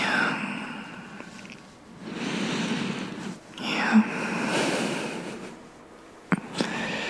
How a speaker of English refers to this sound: See you with your head thrown back, your lips parted. Yeah, breathing heavy.